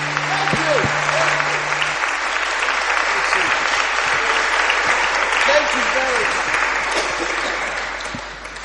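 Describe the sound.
A crowd applauds steadily for several seconds, a dense wash of clapping with a few faint voices mixed in, before it gradually tapers off at the end.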